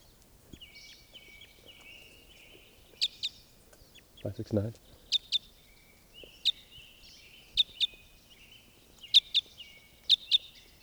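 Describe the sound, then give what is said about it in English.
Sharp, high-pitched bird calls, repeated in quick pairs and short bursts, likely from birds in flight, over a faint thin warbling background and a brief low rumble midway. “This is a new bird. In flight, one call.”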